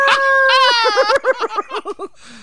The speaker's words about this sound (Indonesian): Wow, kucing berantem.